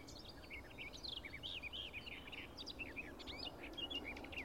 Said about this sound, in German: Bieb, lieb, lieb, lieb, blablab, lieb, blablab, blablab, blablab. Das hohe Pfeifen der Nachtigall.